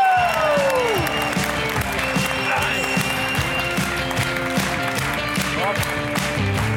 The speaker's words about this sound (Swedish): En stor applåd för …!